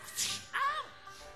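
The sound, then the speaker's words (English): A whip-crack sound effect played during a song: a quick hissing swish followed by a sharp, ringing snap that fades in under a second, heard once on its own at moderate volume. “There's the whip sound, except there it is again.”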